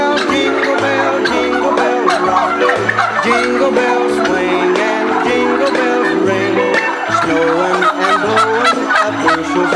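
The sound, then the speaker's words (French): Rapid, warbling gobbles of a male turkey repeat over a steady musical backing with a stepping bass line, loud and continuous throughout. “Le dindon, je pense que c'est comme ça.”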